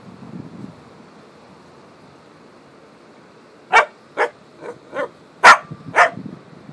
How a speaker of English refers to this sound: Why are you barking? Why are you barking?